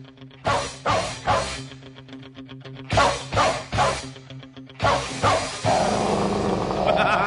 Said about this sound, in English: They don't sound happy, those dogs. It's like the dogs in Jingle Bells, except they're angry.